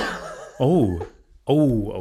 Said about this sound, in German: Oh. Es klingt immer nach einem ganz ungesunden Husten. Ja, ist mir gerade irgendwas einfach in den Rachen geflogen. Ist was in den Rachen geflogen? Einfach aus ganz weiter Distanz richtig in den Rachen reingeflogen.